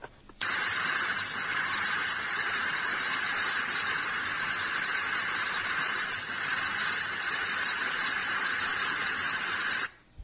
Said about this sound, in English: All right, here's the famous tea kettle. Let's see what this sounds like.